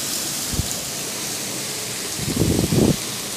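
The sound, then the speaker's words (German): Fresh butter melts in a frying pan set up for frying spätzle, with a steady, even hiss of sizzling, broken by a brief low thump early on and a rougher burst of crackling near the end. “Da tue ich jetzt eine frische Butter rein.”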